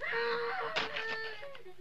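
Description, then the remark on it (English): A faint scream drawn out into a high, wavering wail, with a brief sharper burst partway through, heard alone with no talking. “I don't dig unless I hear a scream.”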